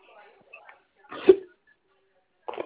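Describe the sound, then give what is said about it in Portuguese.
A single sharp, brief hiccup pops out after faint murmuring, followed by a short quieter vocal burst a moment later. “Eu escutei, parecendo que você tá soluçando.”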